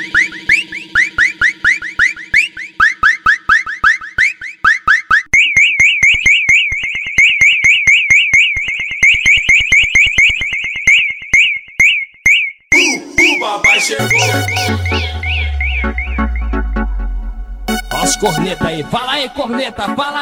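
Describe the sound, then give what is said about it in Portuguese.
Loud, piercing treble blasts from car speakers cycle through alarm-like patterns: rapid chirping pulses, a steady warbling tone, then a wailing sweep with a deep descending boom, all without talk. “Enfim, passa os agudos aí.”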